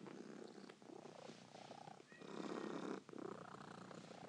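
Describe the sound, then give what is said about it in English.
A cat named Pinky purrs steadily, a low continuous rumbling with a slight rhythmic swell as it breathes in and out, fairly quiet but filling the whole few seconds without any talking. “I always think a cat purring is a very comforting sound.”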